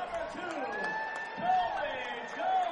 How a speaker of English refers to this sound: 3 walks in the inning, and now the crowd coming alive a little bit.